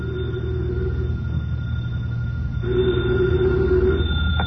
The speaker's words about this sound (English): Later that day, the phone in the Lawrence house on Berry Hill Lane began to jingle.